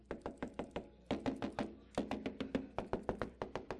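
Rapid knocking on the doors of a house in several bursts, sharp raps repeated quickly in clusters with brief pauses between, moderately loud, with no voices.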